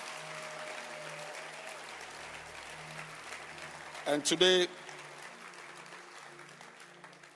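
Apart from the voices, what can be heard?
audience clapping hands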